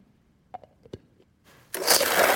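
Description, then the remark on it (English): A few soft clicks and taps, then a blender abruptly roars to life, loudly blending ice with tequila, orange liqueur, lemon and lime juice in a steady, harsh whir until the end. “And just blend it.”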